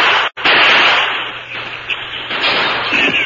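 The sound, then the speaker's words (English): Sharp gunshot cracks ring out against a dense, hissing wash of noise, with thin whining ricochet streaks trailing off near the end as bullets whine through an open window. No one speaks. “As bullets whined through the open window, Dude jumped.”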